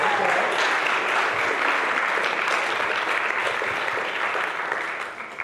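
Steady, dense applause from a room full of people, loud and sustained throughout before tapering off slightly at the very end, with no voices standing out.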